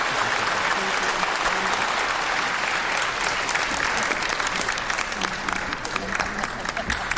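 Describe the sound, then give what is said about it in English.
Sustained audience applause at the close of a 2014 United States Senate campaign debate carried live on C-SPAN, a dense steady wash of many hands clapping at an even, fairly loud level for the whole stretch, with a few faint voices mixed in. “Now you can really applaud if you'd like to.”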